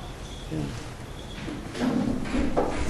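A chair is carried over and set down, with a few wooden knocks and scrapes, a shuffle of footsteps and a soft thud, while people murmur in the background.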